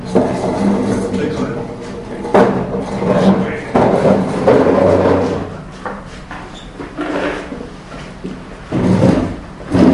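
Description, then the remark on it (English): A wooden chair is shifted and set down, giving several knocks and short scrapes, with muffled voices murmuring in the background. “Give it to me. This chair. Here you have this chair.”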